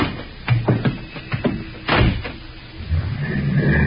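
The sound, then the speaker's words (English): A car door shuts with a solid thud after a run of quick clunks and clicks, then a low steady rumble builds and carries on underneath. “All right. Get in the car, Dave.”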